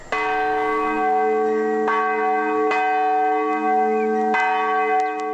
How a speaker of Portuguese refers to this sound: E o sino do relógio junto à Capela de São Paulo, na ilha de Moçambique, voltou a anunciar as horas 37 anos depois de ter parado de funcionar. Trata-se de uma relíquia do século XIX,